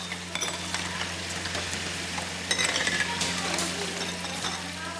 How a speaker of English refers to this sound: In a large kitchen, women wash and sterilize glass jars. The sweet smell of strawberry rising from stainless steel pots fills the steamy air.